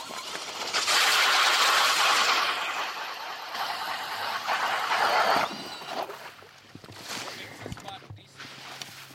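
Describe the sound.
An electric ice auger, an electric drill hooked to a Clam auger, grinds loudly through 10 inches of ice at an ice fishing spot with a harsh, steady whir for several seconds, eases briefly, surges again, then gives way to quieter scraping and faint voices.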